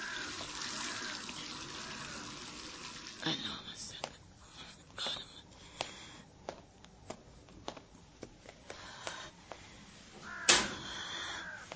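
Hands are rinsed under a running tap, with a steady hiss of water at first, then splashing and a series of sharp little knocks and clatters.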